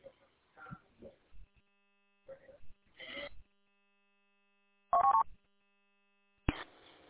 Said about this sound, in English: It's kind of funny because the repeater noise is coming through this on my phone. I can hear the repeater noise because I can hear when you're flip-flopping between the two pickup points.